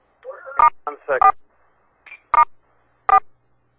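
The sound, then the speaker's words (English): Short phone keypad beeps sound over a line as star and 4 are pressed, several separate presses spaced unevenly, with a brief bit of muffled voice near the start. “Pick star 4.”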